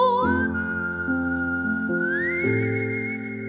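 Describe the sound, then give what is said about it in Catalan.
A person whistles a melodic tune, steady and fairly loud, with sustained notes gliding up in pitch, over a low background of instrumental music. “I em trobo fent un xiulet quan arribo.”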